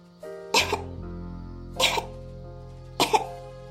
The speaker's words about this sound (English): why are you coughing? Do you have the plague? I just have a little tickle in my throat. That does not sound like a tickle. That sounds like full-blown bubonic plague.